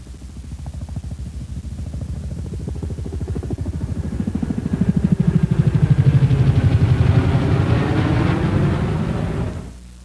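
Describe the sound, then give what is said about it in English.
A CH-47C Chinook helicopter's twin rotors beat in a rapid, steady low thudding over a rumbling engine roar, swelling louder midway and holding before cutting off abruptly. “Next, let's listen to the C model Chinook.”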